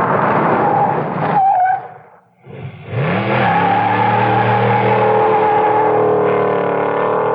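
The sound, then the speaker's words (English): A car engine revs loudly, drops off briefly as the car slows to a stop, then roars back up as it accelerates away and holds a steady drone. No one speaks. “Stopping and starting too much.”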